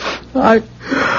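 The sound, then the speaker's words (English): A single sneeze: a breathy intake, a short voiced 'ah' burst, then a hissing, noisy release, all fairly loud and over in about a second. “God bless you.”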